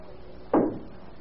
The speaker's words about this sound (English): Mom, there's somebody knocking at the door.